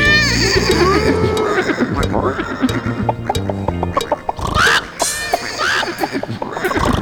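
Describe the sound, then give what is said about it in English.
A horse whinnies once, its shaky rising-and-falling cry cutting through a bright, bouncy music track, with a voice singing along around it. “The horse goes neigh.”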